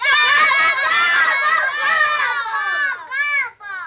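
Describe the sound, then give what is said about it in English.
A group of children gobble like turkeys together, their high, overlapping voices warbling loudly for a few seconds before trailing off in a couple of shorter bursts. “Can all you boys gobble like that?”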